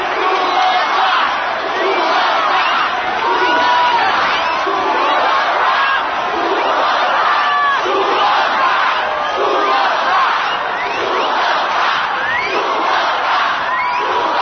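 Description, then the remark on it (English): A large crowd roars and cheers continuously after a rock band's show, many voices shouting and whooping together in a dense, sustained wall of sound with rhythmic surges, calling for an encore. “It's an encore. They want us to go play another song.”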